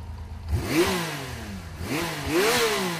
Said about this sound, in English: On a crisp fall day, nothing like a motorcycle ride to clear the mind and the soul. My best ideas come to me 2 hours into an 8-hour motorcycle ride. Sounds and feelings of the road become almost meditative.